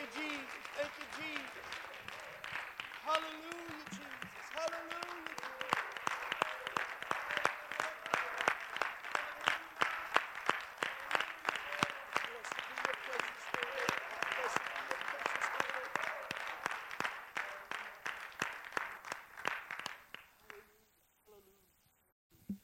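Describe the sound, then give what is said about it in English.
An audience at a church worship service claps steadily in praise for about twenty seconds, dense overlapping handclaps with scattered voices calling out beneath, before the applause quickly fades to near silence. “Why don't we clap unto the Lord?”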